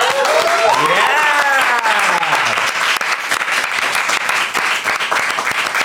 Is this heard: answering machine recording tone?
no